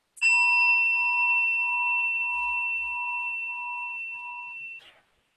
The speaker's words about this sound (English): Let's do a gong. I brought one.